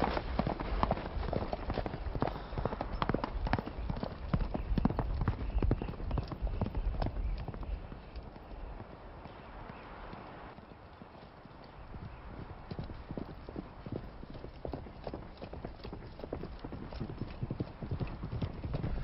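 Horse hooves clip-clop in a steady, busy rhythm, several animals trotting and loud throughout, with a brief softer stretch midway before the clatter picks up again.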